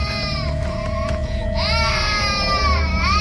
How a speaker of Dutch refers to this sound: Binnen komt het aanhoudende gehuil van een klein kind haar tegemoet.